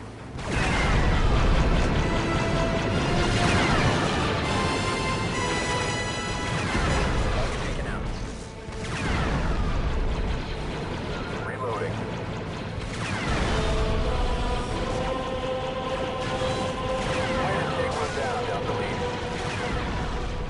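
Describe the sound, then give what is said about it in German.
Video game combat as an AT-T walker blasts droids and droid dispensers in a hangar: repeated heavy blasts, crashes and booming impacts over an orchestral music score, loud and dense throughout with brief lulls between volleys. “wenn ich das spiele, wenn man dann in diesen AT-T einsteigt und dann alles wegbrutzelt, was da im Hangar rumsteht.”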